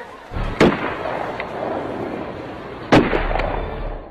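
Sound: several gunshots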